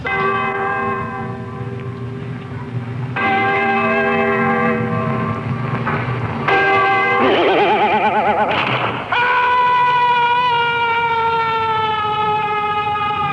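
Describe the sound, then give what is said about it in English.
Loud, continuous bells ring out just after midnight at New Year for several seconds, their overlapping tones layering into a dense, shimmering peal that shifts and swells, with no talking over it. “So what we'll do is it's just gone midnight, so we'll give you the bells anyway.”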